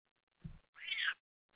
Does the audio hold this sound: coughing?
no